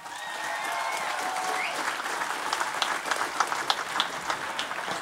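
A large crowd in Tralee, greeting the Kerry football team back and welcoming team captain Paul Geaney, applauds steadily, a dense wash of clapping with some whistles and cheers mixed in early on, sustained and fairly loud throughout the five seconds.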